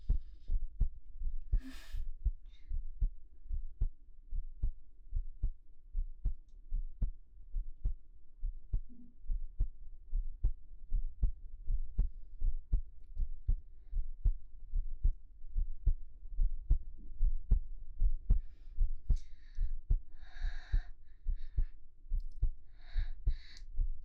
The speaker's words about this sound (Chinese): 我就是想让你感受一下我炙热的心跳。